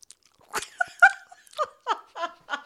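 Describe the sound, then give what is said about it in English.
A voice imitates loud open-mouth chewing: a run of wet, smacking, slurpy mouth noises in an uneven rhythm, about seven bursts over a few seconds, with no words. “You mean like the chewing with the chewing with the mouth open and that noise that comes out of your mouth when you're doing it.”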